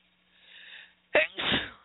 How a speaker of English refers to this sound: Oh, my goodness, I hate sneezing.